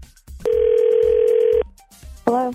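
A steady, loud single-pitch tone holds for about a second, then after a short pause a brief warbling ring begins, like a phone call connecting and ringing out. The call is placed by a radio show on 102.9 The Wolf for its Second Date Update segment.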